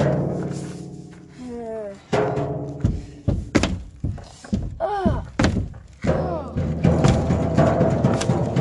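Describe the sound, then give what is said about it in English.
A run of about ten dull, hollow knocks at a shack, in a loose, uneven rhythm, sharp and fairly loud, over a steady bed of background tones and murmuring sounds. “Some strange knocking.”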